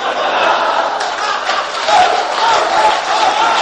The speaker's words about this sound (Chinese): 这别鼓掌了